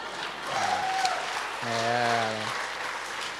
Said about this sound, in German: Ja. Könnt ihr schon mal klatschen, oder?